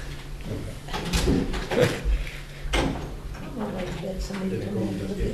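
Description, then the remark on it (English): Doors being opened at a council meeting so members of the public can come back in, with a few sharp clunks and rattles, while a low murmur of people talking and shuffling continues behind them. “Could someone just back open the doors, please?”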